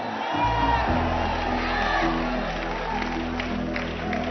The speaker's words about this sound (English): You are hearing a man speaking and say, "In 2 years, we will take Ghana, we will take UK," and you are clapping.